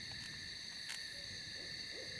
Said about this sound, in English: That's an owl. Hmm. What kind do you think? Oh, you know how my hearing is these days. Barn? Maybe? Maybe.